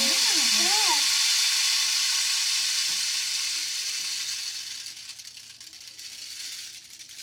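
A rain stick, turned over by a teacher, pours out a steady, hissing cascade of tiny pattering grains that gradually thins and fades over several seconds, with a brief voice sounding at the very start.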